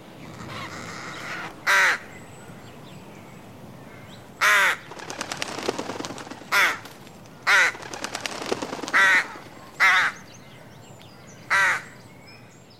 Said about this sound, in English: It's a bird. It's flapping its wings and squawking. Well done! Yes! It's the sound of a large bird flapping its wings and squawking.